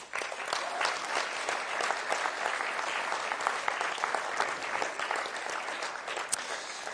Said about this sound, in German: Und vielleicht können wir an dieser Stelle auch mal allen Kindern und Jugend und allen Mitarbeitern, die da so aktiv sind, vielleicht mal einen dicken Applaus geben.